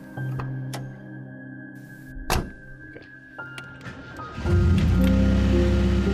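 Sea surf rumbles steadily in the background, with scattered knocks and clicks early on, then the wash of waves swells louder and fuller for the final stretch. No one speaks.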